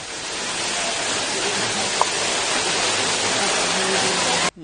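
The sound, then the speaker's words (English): A waterfall roars steadily as streams of water cascade down over rocks into a pool, a dense, constant rushing hiss that stays loud throughout before cutting off abruptly at the end. “A majestic waterfall. Streams of water cascading down over the rocks into a beautiful pool.”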